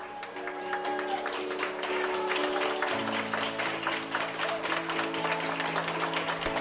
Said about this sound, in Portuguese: Con estes aplausos, o primeiro paciente ingresado en Vigo por coronavirus saía da UCI, foi trasladado á planta no Álvaro Cunqueiro onte mércores, segundo informaron dende o Servizo Galego de Saúde.